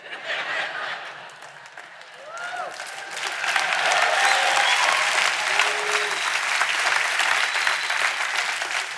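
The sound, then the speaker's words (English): An audience breaks into applause that swells after a couple of seconds into steady, dense clapping, with a few whoops and scattered laughter rising over it and no speech. “Don't clap too long.”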